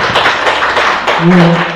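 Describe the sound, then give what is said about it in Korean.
An audience applauds a teacher after a presentation on a village school, with a dense, steady wash of clapping that stays loud throughout, and a brief low humming tone rises under it toward the end. “예, 다시 한번 우리 선생님께 박수 부탁드리겠습니다.”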